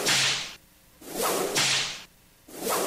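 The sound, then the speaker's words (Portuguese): A whip cracks three times at a steady pace, each loud, sharp snap carrying a hissing swish, with brief quiet gaps between strikes and no voices. “Me dá um chicote, eu quero ver se esse leão é macho.”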